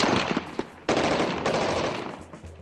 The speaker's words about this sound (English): And the soundtrack that mattered from Iraq and oil-rich Basra was all gunfire.